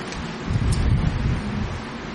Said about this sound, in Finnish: Kato, kun täällä tuulee.